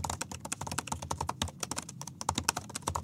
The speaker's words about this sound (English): And so you guys have been typing on this new keyboard. It's great. You want to hear it? Here we go. Yeah, let's a little bit of ASMR. All right, here we go. Let's listen to this keyboard.